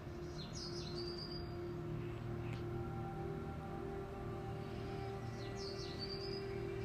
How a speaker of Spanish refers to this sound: Escucha pájaros, aves.